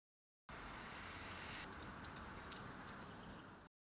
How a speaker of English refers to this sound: Who's tweeting? 谁在啾啾叫? Let's watch the birds.